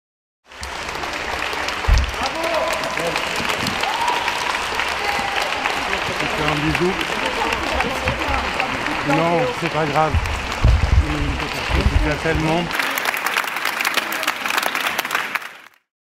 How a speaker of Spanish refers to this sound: Y fue aplaudida por la gente que la esperaba desde el amanecer afuera de la corte.